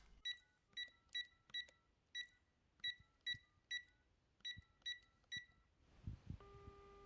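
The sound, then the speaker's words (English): A cell phone is dialed with about a dozen crisp key-press beeps in quick, uneven bursts, followed by the start of a steady electronic ringing tone. No one speaks. “Yep, it's ringing, Murray.”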